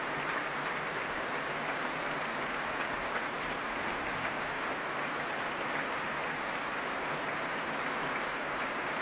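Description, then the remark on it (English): Sustained applause from a capacity crowd fills the Royal Albert Hall after a performance by the Royal Stockholm Phil, as conductor Sakari Oromo brings the orchestra to their feet; a dense, steady wash of clapping with no pauses and no voices breaking through. “Sakari Oromo bringing the orchestra to their feet once more to acknowledge the applause of the crowd.”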